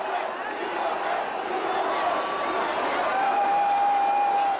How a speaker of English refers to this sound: past the halftime performers, and into the tunnel as the crowd goes wild.